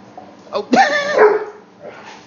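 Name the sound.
dog barking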